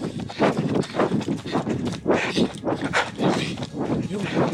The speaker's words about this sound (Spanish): Estoy escuchando pisadas. No es, mami, yo también estoy escuchando pisadas.